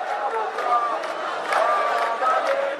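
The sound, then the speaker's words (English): Large crowds of Jewish Israelis march through Jerusalem's Old City waving Israeli flags on Jerusalem Day, filling the air with overlapping voices, shouts and cheers, a steady loud roar with occasional high whoops rising above it, no single voice standing out. “On Sunday, Israelis celebrate Jerusalem Day when large crowds of Jewish Israelis march through the Old City waving Israeli flags.”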